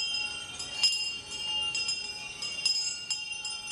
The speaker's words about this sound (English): Several thousand people encircled the World Trade Center site in the early evening, ringing bells. There were small tinkling bells. Some 5,000 of those were given out. Large bells, homemade chimes, Tibetan singing bowls, all sounding out